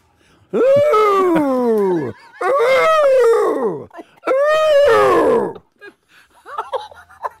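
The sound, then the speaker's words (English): A person imitates an angry elephant's trumpeting with three loud, strained, wailing blasts, each bending downward in pitch and lasting over a second, followed by a few faint, brief squeaks. “Can you do an impersonation of an angry elephant?”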